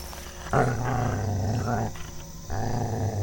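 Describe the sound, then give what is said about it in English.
Low, rumbling growls from two dogs, sustained and menacing, rising in two or three surges with brief pauses between them. “You are the ugliest couple of dogs I have ever seen.”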